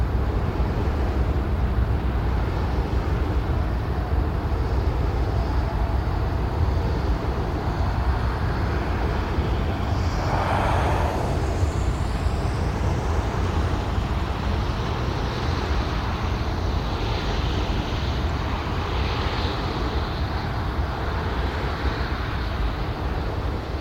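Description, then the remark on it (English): A wind turbine's steady, droning low rumble, recorded on grass about 50 meters from the turbine on 16 December 2023 at 49.607046° N, 5.917317° E, blends with a constant wash of highway traffic in the background, broken briefly midway by a soft rising whoosh. No one speaks. “Around 50 meters from a wind turbine, highway noise in the background.”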